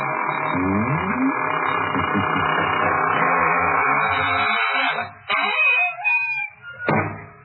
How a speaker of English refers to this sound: And now it's time to close the squeaking door, so good night. Pleasant dreams.